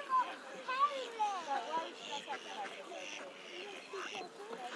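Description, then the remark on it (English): Several ducks quack in quick, irregular bursts in spring, moderately loud, over a steady murmur of background noise that may include voices. “And then I know you're not going to leap in and eat any ducks.”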